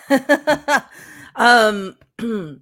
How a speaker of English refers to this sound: sorry, that was me swallowing a cough again.